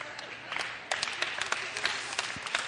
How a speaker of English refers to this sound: And I don't even know why you're clapping.